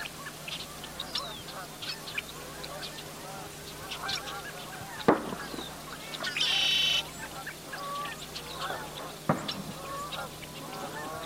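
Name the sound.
geese honking at dawn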